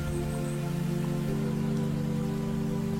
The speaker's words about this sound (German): Entfernt hörst du ein leichtes Plätschern, ein stetes Fließgeräusch von Wasser. Der Klang des fließenden Wassers ist angenehm und beruhigend.